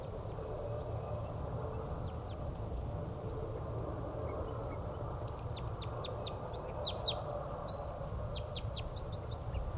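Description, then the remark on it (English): A wild bird, about five feet above a cage and just above a net, chirps in quick, high-pitched bursts, with a rapid series of short notes in the second half, over a steady low rumble of background noise with no talking. “That wild bird is still 5 feet above the cage, just above the net.”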